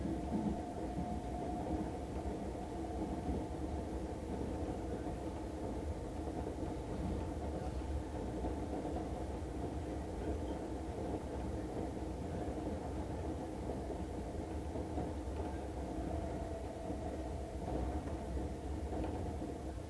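Steady, loud rumble of a subway train running through a tunnel toward Shitennoji-mae Yuhigaoka station (station number T26), a constant low roar with rattling undertones that holds evenly throughout, with no talking.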